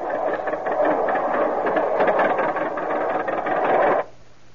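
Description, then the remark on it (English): A car engine runs as the car is about to take off in cold weather, with a steady, rough mechanical drone for about four seconds, holding an even loudness, then cuts off abruptly, leaving faint low hum. No one speaks. “Well, then hang on, because we're about to take off.”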